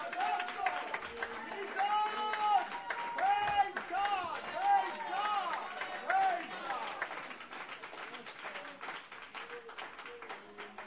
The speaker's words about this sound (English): I want to give him the best hand clap of praise you can give.